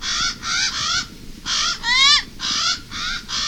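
A Hawaiian crow (Alala), a bird held sacred in traditional Hawaiian culture, gives a run of loud, harsh, nasal calls: about seven raspy caws in a steady rhythm, one of them longer and wavering, with no other sounds.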